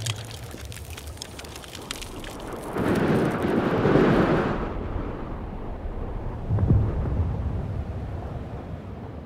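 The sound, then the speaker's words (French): A hurricane storm, Hurricane Irma striking Miami, heard in a film soundtrack, roars with dense rain and heavy buffeting wind, swelling into a loud low rumbling gust midway before easing into steady hissing downpour, with another brief low surge near the end. “Salto Angel au Venezuela, l'ouragan Irma dévastant Miami, le film nous emporte dans un courant qui nous éloigne petit à petit de la civilisation humaine, pour rendre vivantes ces eaux qui deviennent personnages.”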